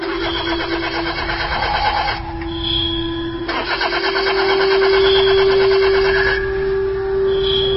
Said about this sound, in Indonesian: Hah? Kenapa ini? Aduh. Kenapa mendadak mobilku tidak bisa di starter? Aku coba terus dan terus.